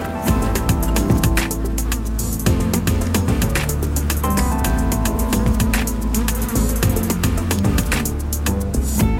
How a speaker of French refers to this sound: Donc là, vous pouvez voir un frelon asiatique qui est en vol stationnaire devant, là.